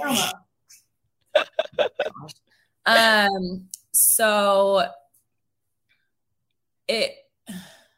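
A dog sneezes in a rapid run of short, sharp snorts, followed by two longer, pitched vocal sounds from a person imitating it, then two more quick sneezes.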